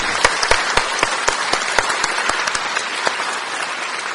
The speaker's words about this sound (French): Applaudissons les personnes qui ont accueilli ces paroles.